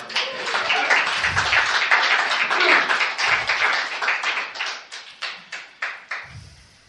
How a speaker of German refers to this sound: Geben wir doch Jesus einen Applaus.